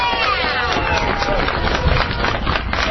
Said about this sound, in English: So give yourselves a round of applause, everyone.